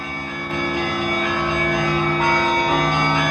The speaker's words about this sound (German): Aber vor allem diese besondere Atmosphäre hier, hör mal die Glocken der großen russisch-orthodoxen Kirche.